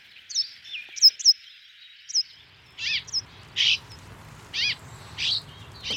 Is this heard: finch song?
yes